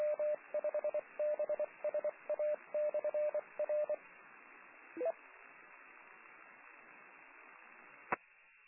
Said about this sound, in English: If you listen to this mode, it sounds similar to BPSK, except every 4 seconds, it sounds like there is a beep or a tone.